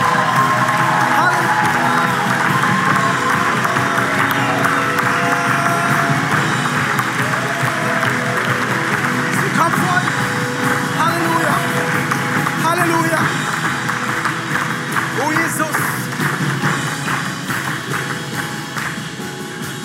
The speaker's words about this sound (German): Und wenn du es glaubst, dann gib doch mal Gott jetzt hier, wo du stehst, mit deiner Zerbruch, mit deiner Kaputtheit, den größten und besten Applaus, den du ihm geben kannst.